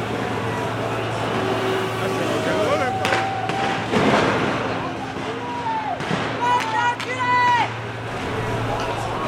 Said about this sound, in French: Le canon en haut, vers c'est la douche, on prend la douche, plus des lacrymos, ça y est.